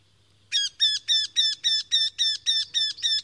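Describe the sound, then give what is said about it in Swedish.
A Eurasian wryneck, a small woodpecker species, calls in a fast, even series of about ten nasal, slightly whiny, ringing notes, loud, with only faint background hum and no talking. “Det här är en göktyta som har lite nasalare läten, mindre hackspett.”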